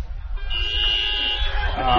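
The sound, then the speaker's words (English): A cluster of car horns, many from Japanese cars, toots together at a football ground for a radio car horn test by listeners, a sustained, overlapping blare of steady high tones over a low rumble, lasting about two seconds. “And as we do wind up, we might just do the car horn test one final time, just to thank the people that have been at the ground listening to us today.”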